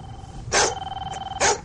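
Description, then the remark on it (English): A studio dog barks twice, loud, about a second apart, with a low pulsing rumble and a thin steady tone continuing between the barks. No one speaks. “Get the studio dog in here.”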